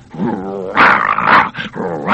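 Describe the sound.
A man imitates a big bulldog: a low, rumbling growl rises into a few loud, gruff barks, with no other talking.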